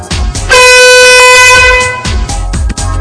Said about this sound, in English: When you start with your foot on or behind the starting point, and start the test with the first beep, which sounds like this.